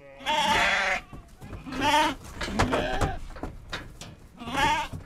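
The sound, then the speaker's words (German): A flock of about 800 sheep crossing a road while oncoming cars wait; several sheep bleat in overlapping, wavering calls, three louder bursts standing out over a steady murmur of more bleating and shuffling. “Ihnen macht das jetzt nichts aus, zu warten wegen der Schafe?”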